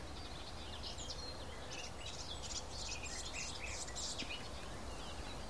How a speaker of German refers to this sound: Auf der rechten Seite von mir aus sowas Plapperndes, Zwitscherndes, Palaverndes. Ja, die Palaver-Grasmücke könnte man auch sagen, ist die Gartengrasmücke.